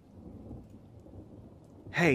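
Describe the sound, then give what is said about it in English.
Heavy rain drums steadily on a blue tarp shelter as darkness falls, with a low, rumbling wash of sound throughout, and a short voiced sound like a sigh breaks in right at the end. “I just sat, listening to the heavy patter of rain against the tarp, and before long, I was asleep.”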